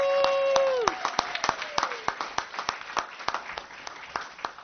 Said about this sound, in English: I am honored to be here tonight to introduce to you the outstanding academic decathlon team from Edgewood High School, who once again outdid themselves and did West Covina proud. I want to give you a big round of applause.